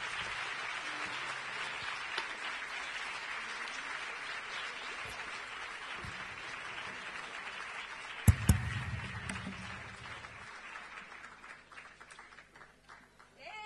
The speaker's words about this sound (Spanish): un aplauso bien fuerte.